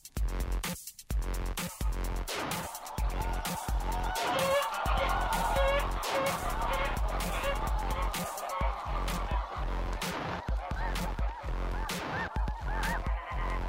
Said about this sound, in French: Pour se mettre en situation, écoutons des oies dans leur habitat naturel.